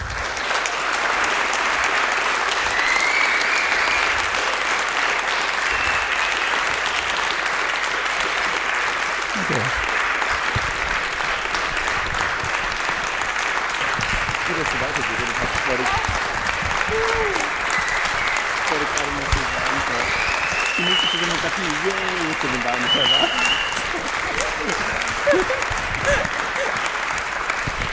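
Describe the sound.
Sustained audience applause, a dense, steady wash of many hands clapping for the whole stretch, with occasional murmured voices and a few whoops rising through it midway.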